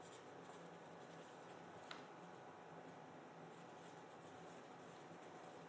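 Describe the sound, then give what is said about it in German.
Pens scratching steadily across paper as people write out sentences, a continuous soft scribbling texture with one brief sharper tick partway through, fairly quiet, with no talking. “Stifte fallen lassen, Ich hab den schon den Satz zu Ende geschrieben, nur.”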